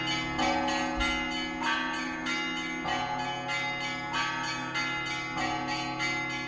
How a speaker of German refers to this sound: Und am selben Ort, am selben Turm, die Glocken, hier jetzt aus dem vorigen Sommer, 2019.